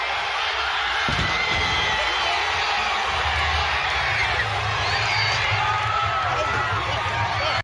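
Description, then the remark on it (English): A large crowd in Bristol roars with sustained cheering and shouting, dense and loud throughout, with scattered whoops and a sharp thud early on amid the continuous din. “Look at this crowd here.”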